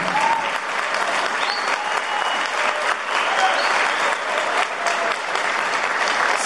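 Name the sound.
warm applause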